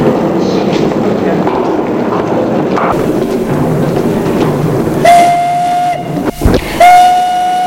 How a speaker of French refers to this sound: Le sifflet pour donner le départ. Et le train se met en route.